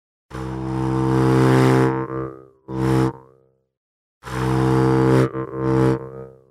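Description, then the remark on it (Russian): A jaw harp, played by drawing breath in through the reed without striking it, plays two phrases. Each is a long buzzing drone with a twangy, wavering overtone followed by a shorter burst, separated by a pause. Fairly loud, with no talking. “Также варгана можно начинать играть, не ударяя по язычку варгана, а просто вдыхать в себя воздух, пропуская сквозь язычка варгана.”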